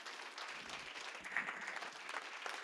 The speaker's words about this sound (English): No, I'm going to make you clap for that. That's so good, you have to clap.